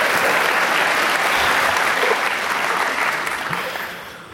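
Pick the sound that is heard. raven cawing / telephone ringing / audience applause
audience applause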